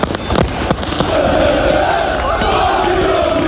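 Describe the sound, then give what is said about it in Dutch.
A loud crowd of Ajax football fans sings together in sustained chant, welcoming the Ajax players after their 2-0 win over Feyenoord, with sharp bursts of clapping cracking through near the start, the noise dense and continuous throughout. “En dus vingen Ajax-fans de voetballers op met gezang en applaus.”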